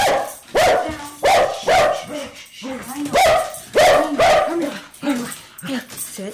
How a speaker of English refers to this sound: That's her dog, Otis, who greets newcomers with a fierce bark that fades when the treats come out.